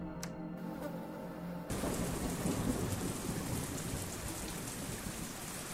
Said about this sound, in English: Oh, of course. That's why you showed up, old friend. A downpour.